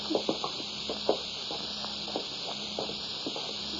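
Footsteps descend cellar steps in an uneven series of soft thuds and scuffs, heard over a steady hiss with a faint low hum beneath.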